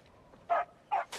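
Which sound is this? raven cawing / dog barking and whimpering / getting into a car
dog barking and whimpering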